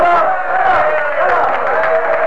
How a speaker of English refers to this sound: The cheers that broke out were taken up by those waiting outside Leicester Castle. Neither the judge nor the clerk of the court could make himself heard.